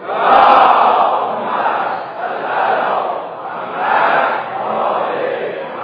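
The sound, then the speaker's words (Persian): A large crowd at a public event chants salawat together in unison, a loud, rhythmic group recitation rising and falling in about four swelling waves, with no other talk over it. “به افتخار این مردم عزیز صلوات.”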